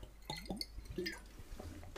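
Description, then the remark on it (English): Someone drinks water from a glass bottle in a few quiet gulps, soft liquid swallowing and wet, squishy sounds over a low background hum, with no talking. “And I don't know if you're gonna hear something, but I'm drinking now.”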